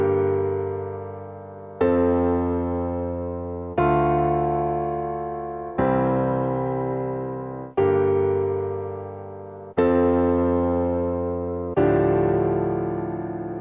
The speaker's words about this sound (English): And here's the musical theater version, the piano version. Let's hear that dissonant add four chord at the end.